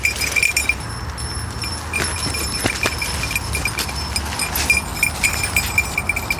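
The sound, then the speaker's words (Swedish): Small bells on the collars of two yellow Labrador guide dogs jingle in a quick, uneven rhythm as the dogs run off-leash in winter slush, with bright metallic tinkles scattered over a steady low rumble of background noise and no talking. “Vi släpper våra ledarhundar lösa, 2 gula labradorer och såklart med rastklockorna hängandes runt halsen så att vi hör vad de är.”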